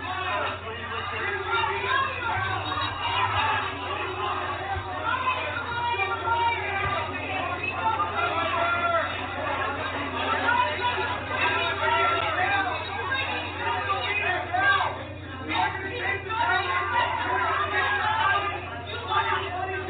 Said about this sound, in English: I have the audio for that one, and it's kind of hard to understand, but every once in a while you'll hear somebody yell out, liar, liar, and towards the end it gets real pronounced.